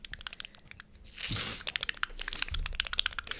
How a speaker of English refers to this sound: Oh, yeah. Get those nice, those nice shuffling cards.